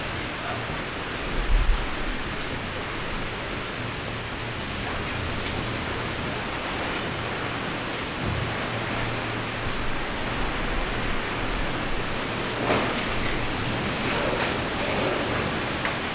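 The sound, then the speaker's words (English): A dense, steady hiss of heavy rain pours down outside without a break, with occasional low rumbles and gusty swells in the wash of noise. No voices are heard. “It is raining too hard outside.”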